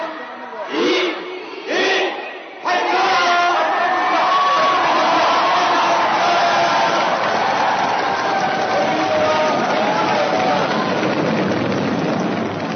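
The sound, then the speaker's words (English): A crowd of thousands, watching live images of a Soyuz rocket launch, chants the final few numbers of the countdown together, roughly one shout per second, then bursts into a loud, sustained roar of cheers and whoops that carries on to the end. “Then the crowd of thousands joined in for the final seconds of the countdown and exploded in cheers as they watched live images of the Soyuz rocket launch.”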